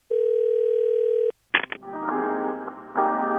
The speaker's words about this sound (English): Ah, hold music again.